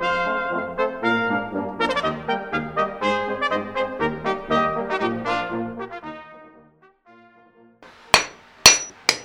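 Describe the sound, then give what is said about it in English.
A short run of tuneful music fades away, then a historic reenactor blacksmith at Fort Gaines, Dolphin Island, Alabama, strikes metal with a hammer three times: loud, sharp, ringing clangs with brief pauses between them, no talking. “Come along and join me at the fort, where we visit with a historic recreator blacksmith”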